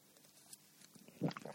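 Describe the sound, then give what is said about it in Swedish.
A gulp of drink, downed bottoms up after a toast, swallowed right into the microphone: a short, soft wet swallowing sound rising after a quiet pause, with a few smaller throat and mouth noises trailing it. “Oj, nu svalde jag rakt i micken.”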